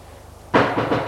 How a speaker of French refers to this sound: On a frappé à la porte.